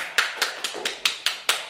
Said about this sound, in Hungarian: Tapsoljuk meg